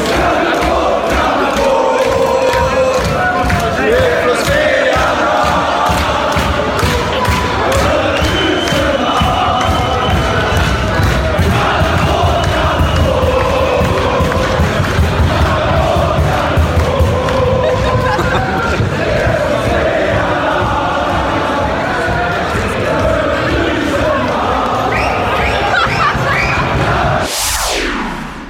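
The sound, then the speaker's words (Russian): A large crowd of Swedish football fans chants and sings loudly in unison outdoors on Pokrovka street after leaving the fan zone following the Brazil-Switzerland match, voices sustained and rhythmic for the whole stretch, with a sharp burst near the end. “После матча Бразилия-Швейцария шведы переместились из фан-зоны на Покровку, и вот, собственно говоря, нам удалось записать их, так скажем, хоровые пения.”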